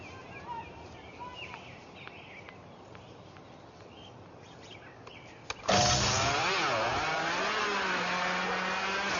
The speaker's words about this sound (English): Did you know that Toyota started making a lawnmower? Watch this. This is the new Toyota lawnmower right here. Here it is.